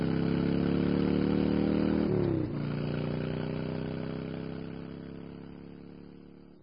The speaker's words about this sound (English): Change of plans, she told Caroli, swiveling around and gunning the speeder bike forward toward the cockpit setup.